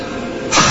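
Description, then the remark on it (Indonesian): An air conditioner runs with a steady, airy whir that suddenly swells about halfway through into a louder, rushing hiss of blowing air. No one speaks. “Terdengar suara mesin AC di ruanganku itu menyala.”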